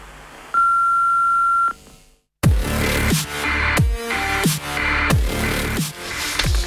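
A single steady answering machine beep on the phone line of Črna luknja, signalling callers to leave their message; loud and clean, lasting about a second. A brief silence follows before busy, full-band music kicks in.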